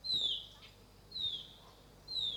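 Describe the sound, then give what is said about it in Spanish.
Small birds chirp in three bright, high, downward-sliding calls spaced about a second apart, clear against a quiet background, with no talking. “Muchos colores. Aire puro y pajaritos.”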